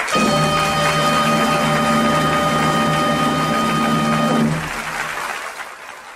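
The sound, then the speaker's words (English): An audience applauds a singer from County Louth after his song, in a dense, steady wash of clapping with a faint sustained hum underneath, then the clapping drops off sharply and thins out toward the end. “Well deserved applause there for the man from the wee county Louth”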